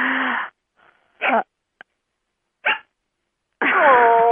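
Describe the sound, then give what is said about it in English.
An Australian Shepherd puppy barks four loud, sharp yaps spaced by short pauses, ending in a longer, whiny, high-pitched yelp. “I was afraid of this, of the puppy. That's okay. It's okay, let puppy enjoy, yeah.”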